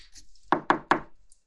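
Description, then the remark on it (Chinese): Three quick, solid knocks on a door by arriving guests, evenly spaced, each a dull wooden thud, with quiet stillness before and after. “来了，来客人了，他们要来了，乖乖的啊，妈妈去开门。”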